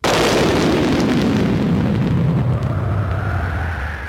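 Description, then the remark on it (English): A loud crack of thunder bursts in sharply, then rolls into a heavy, deep rumble that holds strong for several seconds before slowly easing off. No one speaks. “And at that moment, they heard the crack of thunder, followed by a voice.”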